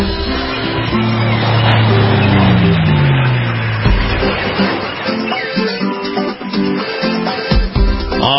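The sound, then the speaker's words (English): Loud, dense intro music for the Beach and Boating Forecast segment of the Captain's America Third Watch show plays on its own for about eight seconds, with a roaring, engine-like sweep dropping in pitch near the start before the music thins toward the end. “Alrighty, when you hear that music, you know it's time for the Beach and Boating Forecast”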